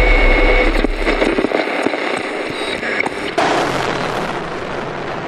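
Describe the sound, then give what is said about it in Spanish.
Heavy machine gun bursts fired by the Armed Forces into a whole building after sniper fire from it crackle in a dense, loud roar of rapid cracks and pops, with a deep rumble early on and a harsher, brighter wash of noise in the final seconds. “cuando hay algún disparo de francotirador desde un edificio, las Fuerzas Armadas tiran ráfagas de metralleta pesada, de ametralladoras son esas, en todo el edificio.”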